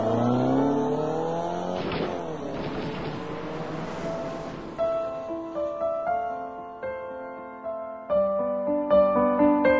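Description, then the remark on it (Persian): A car engine revs and accelerates hard while being shot at, its pitch climbing over about two seconds, followed by a loud rushing burst of noise. Plucked musical notes then take over. No one speaks. “برو علی گاز بده، برو وای نستا.”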